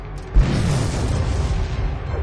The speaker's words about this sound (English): What was that explosion?